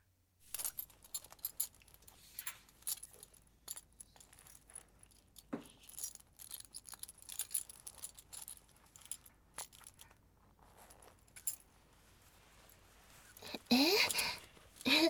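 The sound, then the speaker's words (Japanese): Soft fabric rustling with scattered small clicks and crinkles, building near the end into a louder burst of rasping as a zipper is pulled down and trousers are shifted down. “ほらほら、じゃあもう早くチャック下ろして。”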